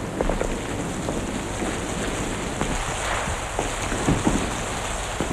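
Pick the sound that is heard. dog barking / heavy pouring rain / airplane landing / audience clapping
heavy pouring rain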